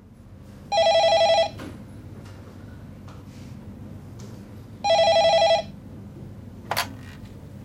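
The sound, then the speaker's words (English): A telephone on the HealthLink phone line rings twice, each ring a loud electronic trill lasting under a second, separated by a few seconds of quiet, followed by a brief click as the handset is picked up. “Hello, HealthLink phone line. Can I help you?”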